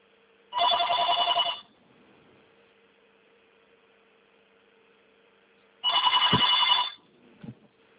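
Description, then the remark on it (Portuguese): A telephone rings twice, each ring a bright, buzzing burst about a second long separated by a pause of several seconds, over a faint steady hum with a small knock at the end. “Um minuto que eu vou atender o telefone aqui.”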